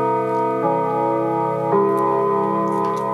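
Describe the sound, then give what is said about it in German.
A school bell at a school in Klingenthal chimes during the school day with sustained, ringing tones that shift pitch twice in a short melodic sequence, loud and steady throughout with no voices. “Auch das gehört zum Schulalltag, eine schöne Klingel”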